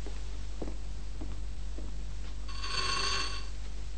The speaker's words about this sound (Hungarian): George, a telefon.